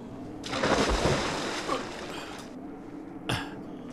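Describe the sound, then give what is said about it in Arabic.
A bucket is thrown into a well and hits the water with a broad, noisy splash that churns for about two seconds, then settles, followed by a short second slosh near the end. No voices. “دعني إذن أرمي الدلو.”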